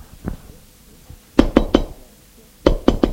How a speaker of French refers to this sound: On a frappé à la porte.